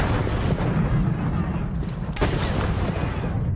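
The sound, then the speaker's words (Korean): Cannon fire aimed at buildings, as in the American army's attack on Hessian mercenaries at Trenton, rumbles in a dense, continuous roar of low booms and crackle, with one sharper blast cutting through partway along, loud. “건물을 향해 대포를 쏘아대자 머지않아 해시안 용병 부대는 항복하고 말았습니다.”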